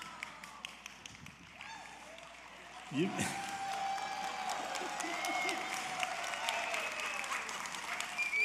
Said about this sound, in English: Thank you. I don't get that kind of applause when I pray.